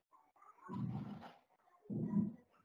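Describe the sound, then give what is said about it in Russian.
A lion roars twice in deep, rumbling bursts, the second following shortly after the first, with faint breathy grunts between. The roars are heard on their own, with no talking. “Рычал лев.”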